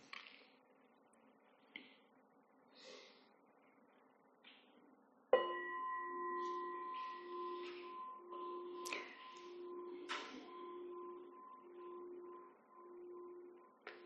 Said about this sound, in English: Can folks online hear the bell? Great, okay.